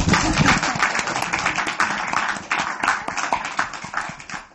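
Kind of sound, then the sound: crowd, audience clapping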